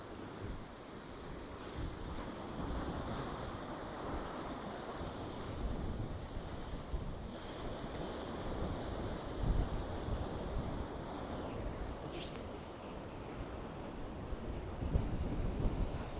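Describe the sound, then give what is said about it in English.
Ocean waves wash onto a beach in a cove, the surf running right up to the mouth of a rock arch, in a continuous, rumbling roar, steady and fairly loud, with gusty wind buffeting the microphone and no voices. “Here you can see the opening of that arch from the ocean side.”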